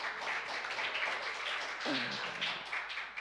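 A steady wash of audience applause, many hands clapping in a dense, continuous patter, with a brief voice or cheer rising partway through.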